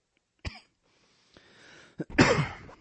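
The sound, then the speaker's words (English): A few sharp coughs break a near silence, the first ones short and spaced apart, ending in a louder, harsher cough that trails off raggedly. No one speaks. “Sorry, I took the cough drop.”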